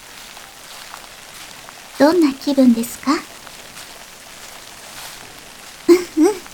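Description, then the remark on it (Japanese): Steady rain falls in a forest throughout as a soft, even hiss, with a woman speaking briefly over it in two short bursts. “今あなたが歩いているのは夢の世界。雨の降る森の中です。”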